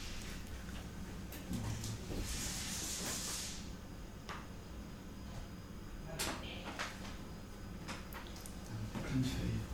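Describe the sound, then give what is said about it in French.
A steady, low refrigerator hum drones through a kitchen the whole time, joined by a short burst of hiss early on and a few scattered clicks and knocks. “On entend un peu, mais on entend surtout le frigo.”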